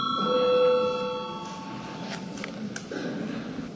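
parliament voting bell ringing

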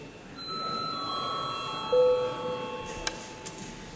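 parliament chamber bell ringing

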